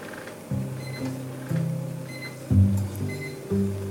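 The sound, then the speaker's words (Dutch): A simmer plate on a stove, with a pan set over it, gives off a steady, rhythmic low buzzing hum, pulsing in short bursts about twice a second at a moderate level, with no one speaking. “En dit is dus het geluid van het sudderplaatje hier.”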